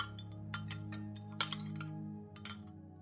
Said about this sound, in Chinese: 然后给自己也斟了一杯，吃力地坐到椅子上，开始用银茶匙叮叮当当搅拌糖片。